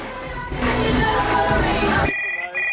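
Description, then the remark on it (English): A telephone in a pub starts ringing with a bright electronic trill, cutting in just as a loud, busy wash of background music and chatter suddenly drops away. “answers the phone in the pub.”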